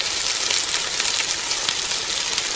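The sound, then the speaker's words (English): A steady, crackling sizzle of food frying in a hot pan, dense and continuous with tiny pops scattered throughout, loud, with no voices. “Yes, we know what that frying pan sound means.”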